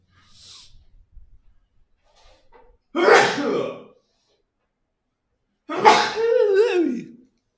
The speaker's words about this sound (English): I'm going to sneeze.